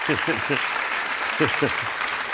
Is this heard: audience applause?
yes